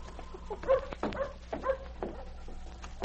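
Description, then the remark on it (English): Sergeant Preston's dog King gives a few short, whiny barks and whimpers, three quick yelps about half a second apart, over a low steady hum, then quiets, on arriving in front of the constable's office in Selkirk. “Shortly after, Sergeant Preston, with his great dog King, arrived in front of the constable's office in Selkirk.”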